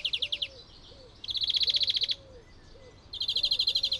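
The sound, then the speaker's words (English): A greenfinch's twittering song: three bursts of rapid, buzzy trills, clear, with soft, repeated lower whistled notes underneath and no voices. “But greenfinches don't just twitter.”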